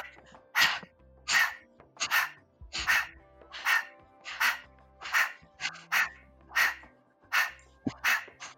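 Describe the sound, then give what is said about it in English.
A dog makes a happy little growl, a steady run of about a dozen short, breathy grumbling bursts in an even rhythm, with no talking over it. “Oh, can you hear a happy growl? Yes. A little happy growl.”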